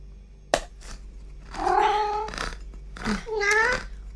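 A cat meows twice, a long drawn-out cry followed by a shorter one, with a sharp click just before and a low background hum.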